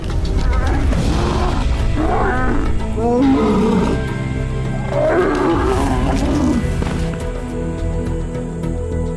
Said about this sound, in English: It looks like a serious case of lion conflict. But here in India's Gujarat state, lions are forging a bizarre relationship with people.